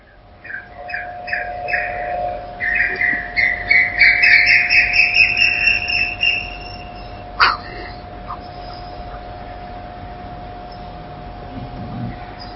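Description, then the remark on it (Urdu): An Asian koel calls during a Quran lesson in a rapid, repeated series of bright notes that build in intensity and then stop, with a steady low hum underneath and a single sharp knock afterward. “اصل میں یہ کوئل جو ہے یہ کوے کا بچہ ہے، اور کوے کے بارے میں پیغمبر کہتے ہیں حرم میں بھی ملے مارو اسے، اور یہاں انتظام ہے کووں کے مارنے کا.”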